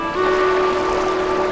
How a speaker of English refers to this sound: Later, on the island, a dock juts from an outcropping of smooth, eroded rock. As the boat cuts a slow path across the shimmering water, Jack eagerly steps onto the bow of the boat.